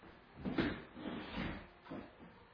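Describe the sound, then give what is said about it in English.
A door being shut, heard as a few soft, muffled knocks and rattles spread over a couple of seconds, with one slightly stronger bump early on. Quiet overall, and no one speaks. “You have shut the door on the record.”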